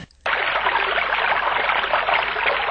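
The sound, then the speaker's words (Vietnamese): A babbling stream rushes and gurgles steadily, a dense continuous wash of flowing water that starts abruptly after a brief quiet moment and carries on without voices. “Khi hai anh em đến suối thứ ba, người em gái lại nghe trong tiếng róc rách của suối giọng nói.”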